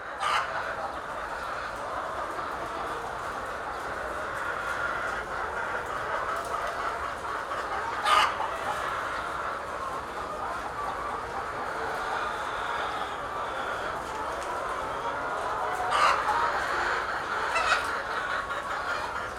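A flock of chickens clucks steadily in a dense, overlapping murmur, with a few sharper, louder squawks breaking through now and then. No one speaks.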